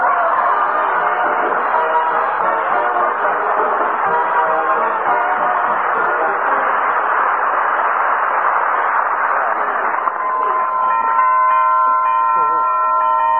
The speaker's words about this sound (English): This is going to be a pretty snazzy doorbell, you know it?